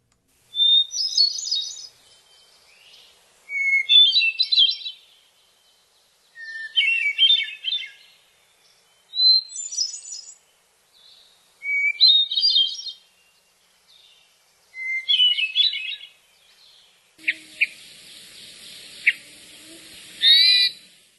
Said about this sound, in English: So let's listen to the hermit thrush first.